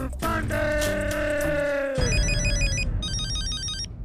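A telephone rings as a call is placed: a tonal ringtone melody first, then bursts of electronic trilling ring, fairly loud, with no voices.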